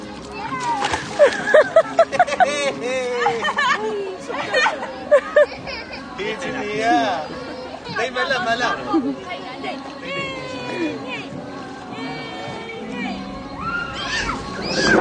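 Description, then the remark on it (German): Tourists and their children shout, squeal, laugh and chatter excitedly outdoors, their high-pitched voices overlapping almost nonstop, with faint sloshing of water as they splash in a river underneath, heard in a video played on a smartphone. “Auf dem Video zu sehen sind Touristen, die mit ihren Kindern im Fluss planschen und lachen.”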